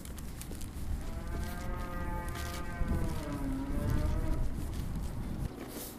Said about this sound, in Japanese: あ、牛だ。